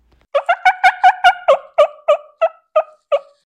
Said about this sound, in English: I slowly opened my eyes, and this bird is staring. This gobbler that I've been hunting for 12 days, tried so hard to kill him. He just happened upon me while I'm sitting there napping.